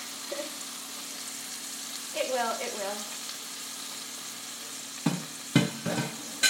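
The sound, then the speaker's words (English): Chicken being browned sizzles steadily in a frying pan, a constant hissing crackle underneath brief speech, with a few sharp clatters and scrapes of stirring toward the end. “So, all the chicken's in the pan. We're just gonna brown the chicken.”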